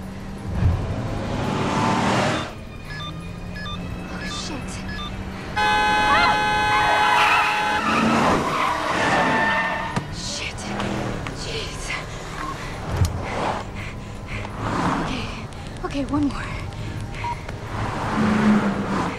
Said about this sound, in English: Lisa hops into their car and drives off. As she speeds away, she tries her mobile phone.